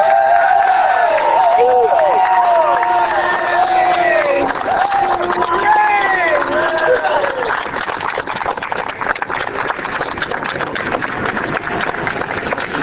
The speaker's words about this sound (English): Let us all express thanks for this victory with a great cheer. Hooray!